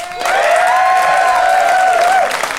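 A live audience at the Pleasance applauds steadily for a couple of seconds to vote on a show, a dense wash of clapping with a sustained high whoop or cheer riding over it before fading slightly at the end.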